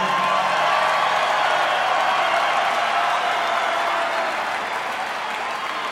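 A crowd breaks into sustained applause for the tailor who made a jacket, dense rapid clapping with a few faint cheers mixed in, holding steady and loud for the whole stretch before easing slightly at the end.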